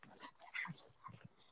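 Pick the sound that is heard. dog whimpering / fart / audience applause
dog whimpering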